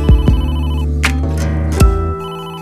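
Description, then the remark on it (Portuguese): An old-fashioned telephone bell rings loudly at 10 o'clock at night, a sustained metallic jangle with a few sharp strikes, then trails off into a ringing hum. “10 horas da noite, toca o telefone.”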